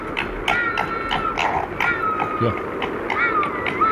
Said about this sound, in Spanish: Es que tienen voces muy, muy distintas, ¿no? Sí. Ladridos, gritos, chillidos. Eso del fondo, que también que parece que lo están matando, es un zorro.